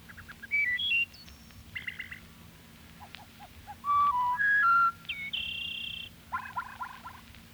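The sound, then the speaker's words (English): A wood thrush sings several clear, flute-like whistled phrases separated by short pauses, some ending in buzzy trills, over a low, steady background hum. “Wood thrush.”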